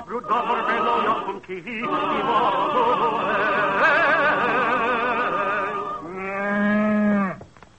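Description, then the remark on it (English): Several long, wavering animal calls, bleat-like, run almost without a break, then one loud, steady, lower-pitched cow moo finishes the sequence. “Who ever heard of bringing a cow into a house?”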